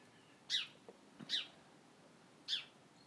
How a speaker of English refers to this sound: And that bird's in the tree right next to me. It wouldn't be here if the cats were out.